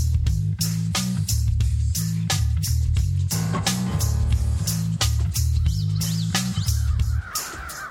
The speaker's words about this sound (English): Just ahead, 3 years ago, the town of Auburn, New York, was inundated with 30,000 crows. But with perseverance, the town sent the birds on the wing.